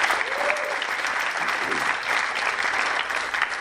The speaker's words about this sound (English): So I'm super proud of these guys. And you're going to be great today. And if we could give them another round of applause, that would be great. Thank you.